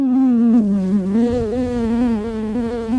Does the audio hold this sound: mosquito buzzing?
yes